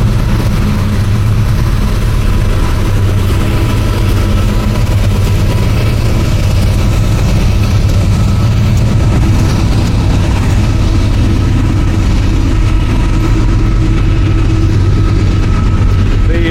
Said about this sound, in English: You let this train go by.